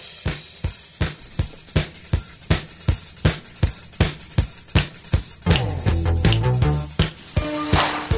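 An upbeat rock song plays from a recording, driven by a steady, punchy drum beat with bright synth lines swelling in partway through; loud and clear, with no voices.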